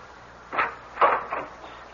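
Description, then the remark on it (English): A door opens with a short series of soft, scraping knocks and creaks, three or four brief bursts of moderate loudness over a quiet background, with no voices. “I wonder if the door will open for me.”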